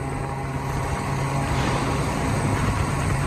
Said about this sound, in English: So we're now on 275 on a moped.